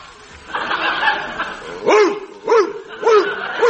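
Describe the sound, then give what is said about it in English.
A dog barks four times in a steady rhythm, each bark loud, following a brief stretch of muffled background murmuring. “But this is all very well until you call round to see a friend who's got a dog.”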